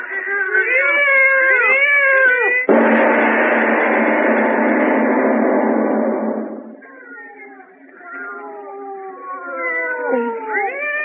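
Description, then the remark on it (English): Two cats yowl and caterwaul with wavering, sliding wails, broken midway by a loud burst of harsh hissing noise lasting several seconds before the eerie yowling resumes, fainter, then swells again. “I tell you, there's two of them. Lona, listen to them. They're not ordinary cats.”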